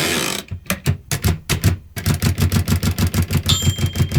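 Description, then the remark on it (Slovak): A Picht Braille typewriter, used for writing Braille, clacks away in sharp mechanical strokes, uneven at first, then settling into a quick steady rhythm, with a brief high ringing tone near the end. “Napríklad takto znie pichtov stroj, ktorý sa používa na písanie Brailleho písma.”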